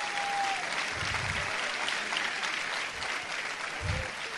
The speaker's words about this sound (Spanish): Dale un aplauso a Cristo y gózate, mi gente.